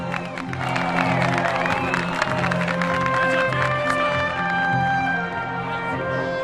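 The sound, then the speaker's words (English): A large crowd at a baseball stadium applauds and cheers steadily throughout as Jackie skids up at second base, a dense wash of clapping with scattered whistles and shouts rising over a low, rumbling roar. “Ed and his mother applaud.”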